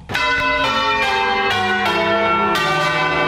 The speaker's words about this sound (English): Church bells tolled Saturday in the U.S. city of New Orleans, Louisiana, and across large swaths of the Gulf Coast as residents mark the 10th anniversary of the deadly Hurricane Katrina.